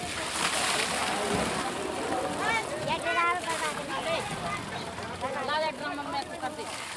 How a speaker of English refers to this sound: The truck squeezes down the narrow lane and parks by a carefully arranged collection of about 150 containers. Neighborhood men use four large hoses to fill as many containers as possible, as quickly as possible.